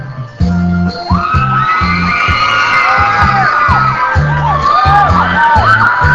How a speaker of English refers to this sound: The audience members cheer and hoot for their favorites, especially during the singing competition.